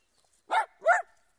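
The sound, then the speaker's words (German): A dog gives two quick, clear barks in a row in a park in Berlin, with a short gap between them and quiet before and after. “Hör auf zu bellen!”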